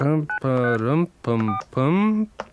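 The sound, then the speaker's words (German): A phone number for an elephant hotline is dialed on a keypad: a quick series of steady, bright electronic tones, each held briefly with short gaps between them, some higher-pitched than others. “Dann gebe ich mal hier die Nummer ein.”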